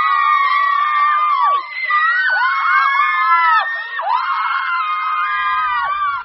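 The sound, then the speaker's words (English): A big crowd of women, come running when DJs whistle, shrieks and screams together, many high-pitched voices overlapping in wavering, swooping cries that stay loud and continuous, with a brief dip before surging again. “DJs whistle and women come running? The big crowd makes sense.”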